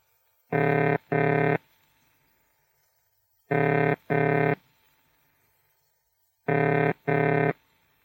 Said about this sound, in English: Ringing tone.